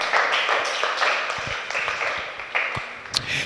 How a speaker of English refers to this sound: Rise to your feet. Put your hands together for the Lord. Oh, are you clapping for God or you are tired?